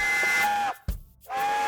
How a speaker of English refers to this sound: It's a train!